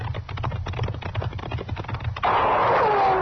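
A rapid, steady clatter runs for a couple of seconds, then a loud gunshot cracks out as a cook fires at riders, followed by a sustained whining ring that slowly falls in pitch. No one speaks.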